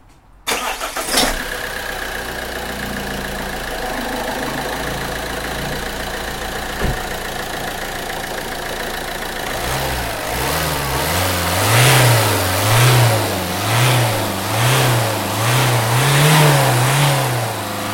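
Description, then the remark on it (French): A car engine cranks and catches, settles into a steady idle, then revs up and down repeatedly in rhythmic bursts, loud, with no one speaking. “Donc je vais te le mettre en route. Tu vas voir ce que ça donne.”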